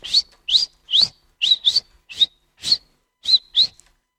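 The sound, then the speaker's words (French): A voice imitates a sparrow with about ten quick, bright chirps, each a short rising tweet, delivered in a fairly steady rhythm, with no talking around them. “Le moineau, il siffle.”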